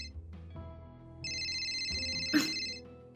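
A phone's electronic ringtone chimes for about a second and a half over a low background hum, ending with a brief click, and no one speaks.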